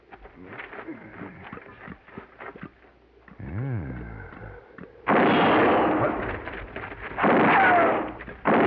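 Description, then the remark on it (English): Loud gunfire erupts in two long, harsh bursts of noise, following a stretch of choppy rustling and a brief warbling, sliding tone. “Answer me or I'll shoot again.”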